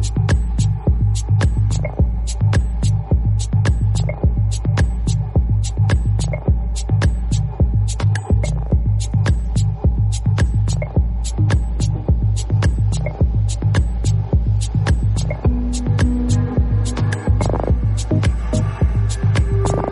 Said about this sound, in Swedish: Men nu sista låten som i vanlig ordning kommer bli något ambient och elektroniskt. Den här gången från Island